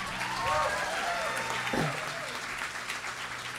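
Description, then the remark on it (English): An audience claps steadily, a dense wash of many hands that holds at a fairly even loudness throughout, with a few voices whooping and cheering over the applause. “Yes, y'all want to give her one more hand clap?”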